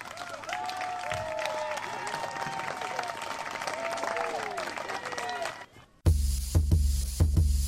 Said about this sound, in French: Et là, mesdames et messieurs, je vais vous demander de les applaudir bien fort.